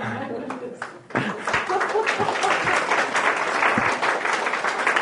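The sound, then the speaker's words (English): An audience bursts into sustained applause at the end of a historian's talk, many hands clapping in a dense, steady patter that swells after a brief lull and stays loud throughout, with faint murmuring voices mixed in. “I noticed you paused even longer to clap at the end than you did at the beginning.”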